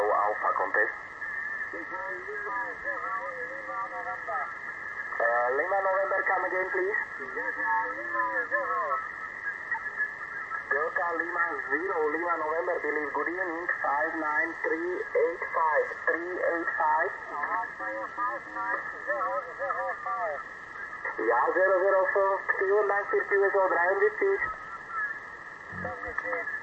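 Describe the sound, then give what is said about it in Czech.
A tinny, narrow-band amateur radio voice transmission with an echo effect, a contest call from station Oscar Mexico Zero Alpha, running almost continuously beneath a steady high-pitched whistle tone. “Co se to tam děje? Tam pouští nějaký echo, nebo se poslouchá?”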